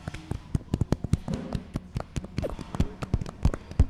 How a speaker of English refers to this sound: Why are we clapping into our crotches? I like that sound.